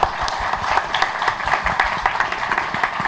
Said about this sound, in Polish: Ale ja jeszcze raz bardzo proszę o brawa dla wszystkich. Gratulujemy.